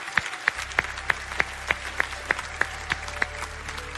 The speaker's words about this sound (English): Those of you that stood, I hope you hear those claps, because we're proud of you.